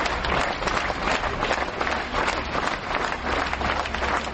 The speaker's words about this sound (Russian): В последний путь Максимову провожали не из Большого театра, но из прилегающего к нему здания Атриума. Провожали, как принято у театральных людей, аплодисментами.